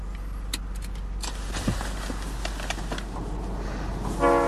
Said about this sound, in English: No, it's my train! Damn it! Oh, all right, look, the next station isn't too far. I bet I can beat the train.